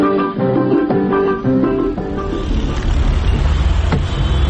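A tinny melody plays briefly before giving way to the steady, rattling rumble of an old car engine, loud, with a noisy mechanical clatter running to the end; the car is said to have no horn and no seats.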